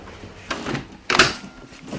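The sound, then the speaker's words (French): A door in a top-floor home in Paris is pulled shut to keep out construction noise from across the way: a soft sliding rustle, then a firmer closing thud with a brief rattle, with faint background noise and no talking. “Je vais un peu fermer la porte pour les bruits de, éviter les bruits de travaux en face.”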